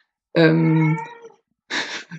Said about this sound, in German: Jetzt muss ich mit der Katze im Hintergrund. Ja, ich werde ihn gleich rausschmeißen. Vor allen Dingen, es klingt nicht unbedingt wie eine Katze, es ist so wie Goats that sound like humans. So. Ich verspreche euch, es ist eine Katze.